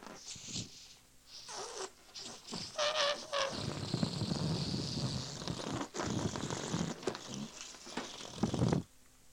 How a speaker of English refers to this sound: Can you guess what that was? If you guessed a balloon, you guessed correctly.